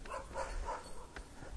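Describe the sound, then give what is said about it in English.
Faint dogs barking during a walk in Cape Ann, a few short barks in quick succession over steady outdoor background noise, with no one talking. “Listen to the dogs.”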